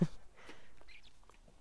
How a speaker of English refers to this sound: Oh, a little cardinal just landed. And yes, there are cardinals here. I was surprised. Being from Illinois, where that is the state bird, I felt like, oh, they followed me here.